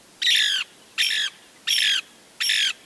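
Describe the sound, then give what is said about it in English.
A Lewis's woodpecker gives four harsh, squawking calls in a steady rhythm, each about half a second long, loud against a quiet background. “A century of logging and fire control has taken its toll on these mature pine forests, the preferred nest site for the Lewis's woodpecker.”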